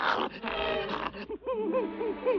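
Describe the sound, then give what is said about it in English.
A bloodhound asleep on a kitchen floor growls low and rumbly in its sleep, twitching as it dreams, breaking into a few short, wavering whimpers, with no talking. “The dog twitches in his dreams.”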